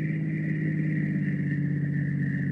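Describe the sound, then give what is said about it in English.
A taxi's engine runs with a steady, low droning rumble and a constant higher whine above it as the taxi draws near and stops, holding an even loudness throughout with no voices. “Patrick Wilmot, when that taxi draws near.”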